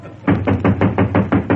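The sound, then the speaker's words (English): A sound effects man on the Jack Benny radio show knocks on a door: a rapid, steady series of about eight loud knocks, evenly spaced with a hollow, thudding tone, and no voices. “Who's that knocking on the door, Mary?”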